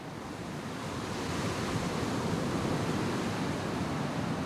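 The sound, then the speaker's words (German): Atlantic Ocean waves break on the shore at the far end of an island in Brittany, France, in a steady, continuous roar of surf, broad and rushing, with a hint of wind across the microphone and no voices. “Ganz am Ende der Insel, direkt am Meer. Vor uns nichts als der Atlantik.”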